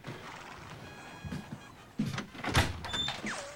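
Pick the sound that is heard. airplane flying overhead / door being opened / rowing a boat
door being opened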